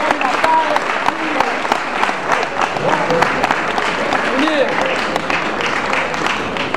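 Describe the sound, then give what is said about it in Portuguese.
A crowd breaks into sustained applause for the women who cook the food, dense clapping filling the whole stretch at a steady loud level, with scattered voices and cheers mixed in. “Queria pedir uma salva de palmas pras meninas que fazem o rango ali.”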